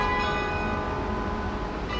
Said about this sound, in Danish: men nu slutter den altså op over hovederne på intetanende københavnere, der er på vej hjem fra arbejde i myldretidstrafikken, mens klokkerne blander sig med støjen og blæsten og regnen.